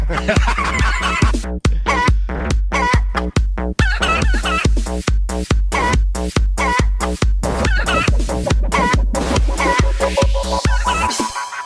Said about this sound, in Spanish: No, otra vez con el gallo, no, no.